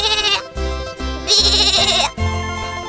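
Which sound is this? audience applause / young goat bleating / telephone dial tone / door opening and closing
young goat bleating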